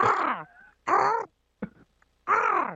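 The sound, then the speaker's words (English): A person's voice imitates an eagle call with three loud, harsh screeches that slide downward in pitch. Pauses separate the screeches, and a short clipped squawk falls between the second and third. “Give us an Eagle cap.”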